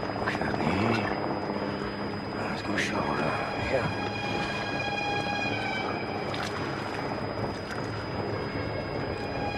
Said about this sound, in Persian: صدای هلیکوپتره. مهمون ناخونده داریم. امریکاییه. داره نزدیک میشه.